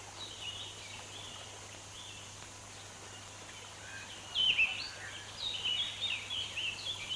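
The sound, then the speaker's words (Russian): Ducks quacking in a flurry of short, nasal calls, quiet at first and then louder and busier in the second half, with no one talking over them. “Это мои утки! Не трогайте их!”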